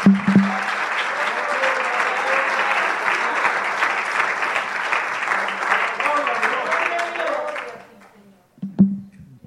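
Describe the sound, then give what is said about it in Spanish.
Sustained applause from a church audience praising God, a dense, steady wash of many hands clapping for about eight seconds before fading out, with a brief burst of voice and sound at the end. “denle un aplauso al Rey de Reyes, Señor de Señor.”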